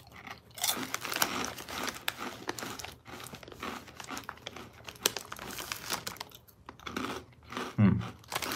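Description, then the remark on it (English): Steady crunching of Bugles corn snack chips, Cinnamon Toast Crunch flavor coated in cinnamon dust and made mainly of de-germed yellow cornmeal, being chewed, with crinkly bag rustles mixed in and a few louder crunches near the end, no talking. “Ooh, that's a very pleasant cinnamon taste right there. Bugles, Cinnamon Toast Crunch, blasted with Cinnadust.”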